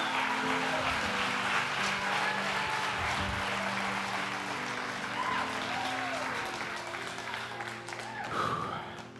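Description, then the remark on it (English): A church audience claps steadily and shouts to give the Lord a clap and a shout, a dense wash of applause with raised voices calling out over it, sustained for several seconds at fairly constant loudness. “In Jesus' name, let's give the Lord a clap and a shout.”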